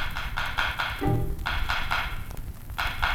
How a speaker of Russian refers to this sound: Друг, друг, слышишь стук? Друг, друг, лес молчит. А вдруг? А вдруг? Это солнышко стучит! Да это не солнце, а птица!